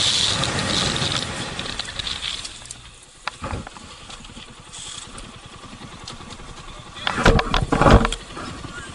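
A motorcycle engine rumbles amid car traffic noise as a car almost T-bones the motorcycle, both going fast, with a sharp brief burst partway through and a loud, surging roar near the end.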